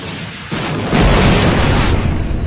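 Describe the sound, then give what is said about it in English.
A sci-fi starfighter explosion effect, the starfighter exploding in a ball of white light: a sudden loud blast swells into a thick, rumbling roar that sustains without fading, with no voices present. “The starfighter exploded in a ball of white light.”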